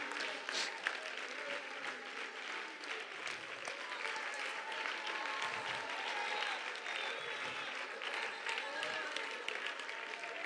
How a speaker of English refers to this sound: Clap your hands and thank the Lord for His presence.